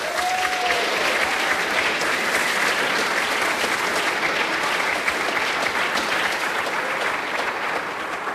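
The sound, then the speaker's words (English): The audience at a camp applauds itself, clapping steadily for about eight seconds, a dense, even wash of many hands at a loud, constant level, with a brief whistle near the start and no talking over it. “Guys, give yourselves a round of applause.”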